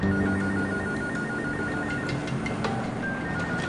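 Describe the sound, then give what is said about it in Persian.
A telephone rings steadily, its repeating electronic tone cutting through constant background clatter and murmur at moderate volume. “بابا یکی تلفن رو جواب بده.”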